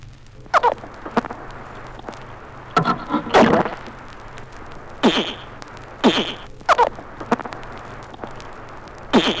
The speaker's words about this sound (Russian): Пресноводные рыбы в аквариуме. Крик боли вьюна.